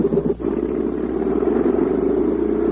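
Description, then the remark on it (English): A tugboat engine on the Illinois River catches after a brief hitch and settles into a loud, steady chugging rumble that runs unbroken, with no voices. “That scared the engine into starting.”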